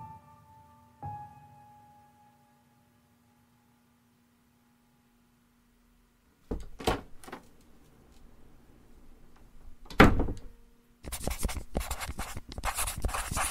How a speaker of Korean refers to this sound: 난 정신 나간 사람처럼 문을 여닫으며 기록했다.